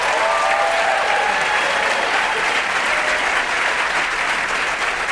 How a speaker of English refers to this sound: God, I wish every time I picked up the phone I had applause like that.